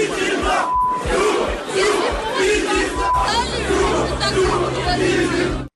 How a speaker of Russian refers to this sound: Целая группа болельщиков в гостевом секторе, по головам не знаю, сколько там вышло, но группа кричала хором, вы слышали, в принципе, многоголосие.